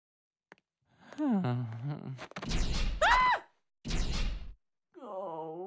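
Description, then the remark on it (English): A voice lets out a wavering groan, then two loud, noisy crashing thuds follow with a brief rising whistle between them, and a short vocal cry closes it, as a person falls through a trap door on a stage. “He falls in the other trap door.”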